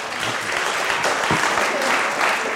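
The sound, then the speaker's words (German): A crowd applauds steadily for a proposal, a dense wash of many hands clapping at once, fairly loud, with no pauses and no voices standing out above it. “Ein Haufen Applaus für den Vorschlag.”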